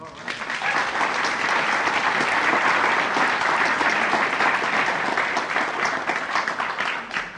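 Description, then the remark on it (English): A crowd applauds steadily for several seconds, a dense, even wash of clapping that holds at a loud, constant level without breaks before easing slightly at the end. “And you applaud, as you should.”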